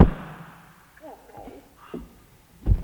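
Clattering and banging of a microphone stand being knocked about, with a loud thud at the start, softer rattling knocks in between, and another heavy bang near the end.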